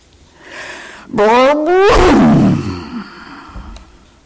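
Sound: rocket launch roar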